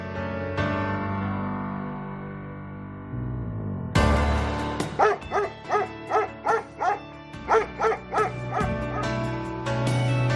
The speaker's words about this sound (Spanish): Sí, escuchas ese ladrido, a veces podríamos pensar que hasta lastimero, y se te nubla el corazón y la mente